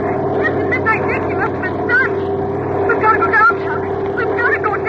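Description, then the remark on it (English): A loud, continuous roar of diving Japanese Zero fighter planes' engines fills the whole stretch, a thick droning rumble with whining tones rising and falling over it, steady. “Those Jap Zeros are still diving.”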